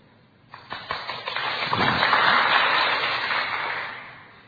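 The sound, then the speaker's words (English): An audience breaks into applause, a few scattered claps at first quickly swelling into a dense, steady wash of clapping hands that eases slightly toward the end, with no talking. “I want to see deeds, not hands clapped.”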